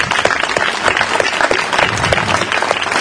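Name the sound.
audience applause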